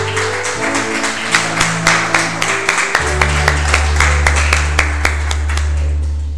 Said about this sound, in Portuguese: Vamos aplaudir Jesus.